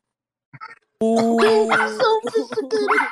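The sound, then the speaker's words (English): A dog barks and yowls, a soft short yelp first, then a loud, drawn-out run of vocalizing with rising and falling bursts lasting a couple of seconds. “Even the dog like that.”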